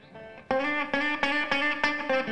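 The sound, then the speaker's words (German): A sustained, bright musical tone repeats in regular pulses about every third of a second, each repetition smearing into the next like a delay echo applied to the music. No voices. “Wir haben hier das Echo reingeschossen.”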